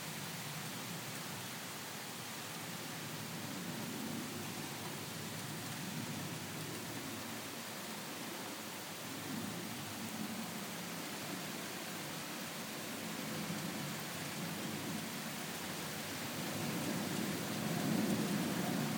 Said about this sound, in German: Schon wieder mehr mit dem Regen.